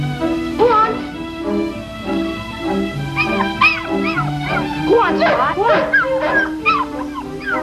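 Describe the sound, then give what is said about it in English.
A dog lets out a run of sharp yips and barks mixed with high whimpering whines, clustered in the second half, over a steady humming tonal background. “Hey, leave my dog alone.”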